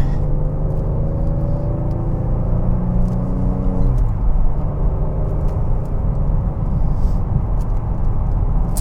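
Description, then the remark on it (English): A car drives steadily on a slightly wet road, its engine droning with a tonal hum that drops in pitch partway through, as if shifting gear, over constant low road rumble heard from inside the cabin. “You know, I've been driving the little electric car so much, I haven't really been out in this car for a good run, except maybe today.”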